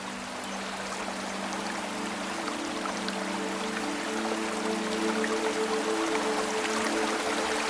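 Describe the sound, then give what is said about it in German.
A brook of cold, clear water flows in a steady, even rush of bubbling water, with a low sustained hum running underneath throughout and no voices. “Du gehst näher zum Bach, kniest dich hin und tauchst deine Hände in das kalte, klare Wasser.”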